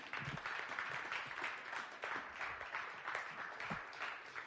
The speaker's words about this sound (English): Clap your hands if that is true.